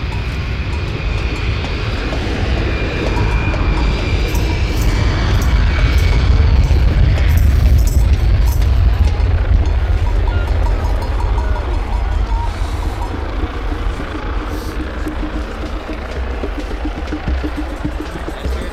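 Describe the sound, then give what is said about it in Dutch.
A loud, continuous low rumble of an airplane passing overhead, swelling to a peak midway and then slowly fading, with a faint whining tone above the roar. “Gaat het volgende vliegtuig.”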